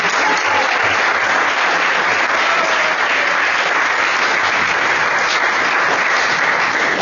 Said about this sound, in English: There are up to 70 devotees who have contributed photos. I'd like a big round of applause for these devotees.